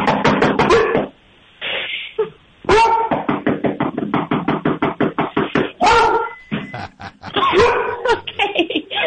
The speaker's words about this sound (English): That's some good. That's quality deterrent. That's deterrent barking. That's there's growl and bark. Yeah. That's Wally is saying, "I'm here. I'm on the other side of this door. enter at your own risk.